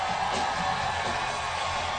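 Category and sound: crowd, audience screaming and cheering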